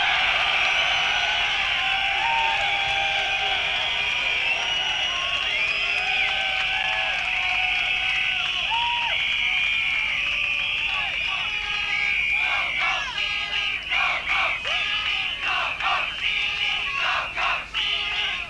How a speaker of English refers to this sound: I'm going to count to three. If you got whistles, blow them. You got mouths to shout with, shout with them. Feet to stomp the floor with, stomp the floor with them. Right, are you ready? Want to take the ceiling off. One, two, three. Make some noise.